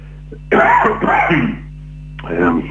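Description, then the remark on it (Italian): A man with a smoker's cough from cigarettes clears his throat with a rough, phlegmy hack, followed by a short raspy cough after a brief pause, fairly loud over a low steady hum. “Non vi preoccupate della tosse, sono sigarette, nient'altro.”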